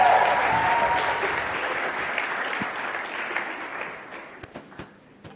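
An audience at a church conference applauds in a dense, steady wash of clapping that gradually thins out, ending with a few scattered individual claps.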